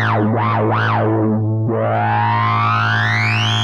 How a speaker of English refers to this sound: 8 effects options, and all new to the Korg NTS-1 Mark II are some fantastic distortion models. Soft clip.